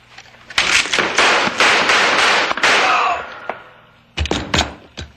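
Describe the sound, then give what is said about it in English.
A loud burst of gunfire in a shootout: many sharp cracks fired in rapid succession, a brief lull, then a few more shots ring out at the end. “I just shot a man.”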